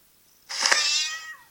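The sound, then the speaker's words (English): A single drawn-out cat meow sound effect, bright, lasting about a second and trailing off with a falling pitch at the end. No one speaks, and quiet surrounds it. “Well, we hung out for that little cat sound effect.”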